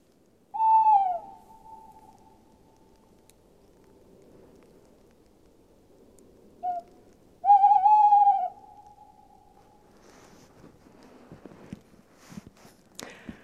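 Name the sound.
tawny owl hooting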